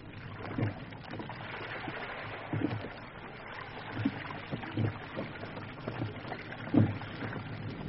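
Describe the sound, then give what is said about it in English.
A canoe pushes off onto a river: steady rushing water with a handful of soft wooden knocks and splashy paddle strokes at irregular intervals, no voices. “It'll take us all we know to get this canoe through it.”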